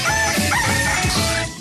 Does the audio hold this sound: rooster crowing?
yes